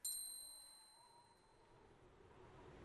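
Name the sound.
small bell ringing softly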